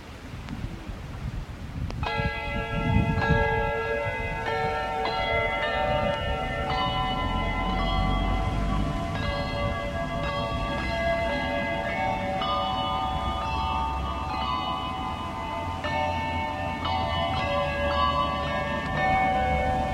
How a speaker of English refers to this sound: We're ringing on 12 bells. 12 bells. Three of us, four bells each. 4 bells each.